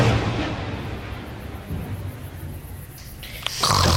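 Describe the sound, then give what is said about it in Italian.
A man snoring loudly in deep sleep, a heavy, coarse, rumbling drone that carries on through the whole moment, with a sharper rustle near the end. “No, ma lei è la russa? È russo, diciamo che sono attivo, che non passo inosservato.”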